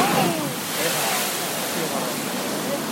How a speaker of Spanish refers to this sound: Está como a unos 4 metros debajo de nosotros. 4 metros debajo de nosotros y es una pasada como rompe el agua. Una pasada.